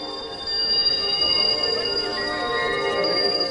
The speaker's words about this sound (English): The boomboxes blasted tapes and CDs of an original composition by …. Ambient winter music shimmered in the cold December night. As the crowd stretched into a block-long procession, it became a walking wall of sound.